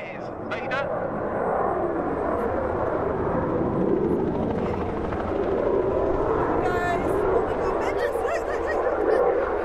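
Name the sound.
aircraft engine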